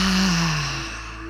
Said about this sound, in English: Breathing in. Loud exhale out.